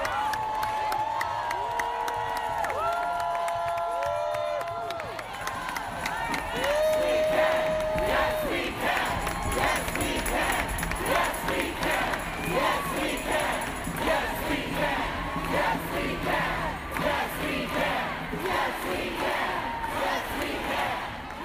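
A crowd of thousands outside a courthouse erupts in loud, sustained cheering with whoops and shouts, a few long rising yells early on, then a dense roar of voices that stays loud throughout, as an ACLU lawyer announces a judge has put a stay on the executive order.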